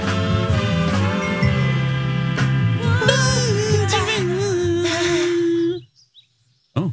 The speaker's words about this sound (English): Oh, no music. The birds. Oh, yeah. There we go. I hear him now.